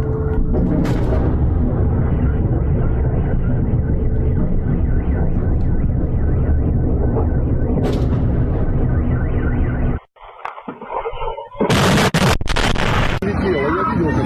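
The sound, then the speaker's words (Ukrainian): A loud siren wails steadily for about ten seconds after bangs from shelling, then cuts out abruptly, followed by a short stretch of harsh, noisy bursts. “После вот бахи идут, сирена орет, домофоны закрыты все.”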